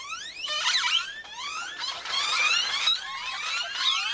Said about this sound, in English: Great-tailed grackles rattle, screech, whistle, and creak, sounding more machine than bird at times.